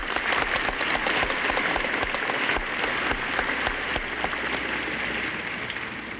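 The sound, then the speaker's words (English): A crowd claps steadily for several seconds for Ms. Clooney, Ms. Remick and Danny Thomas, a dense, even patter of many hands with no voices over it, holding at a consistent loudness throughout. “I wish we could all just applaud them.”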